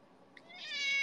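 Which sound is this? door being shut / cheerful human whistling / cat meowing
cat meowing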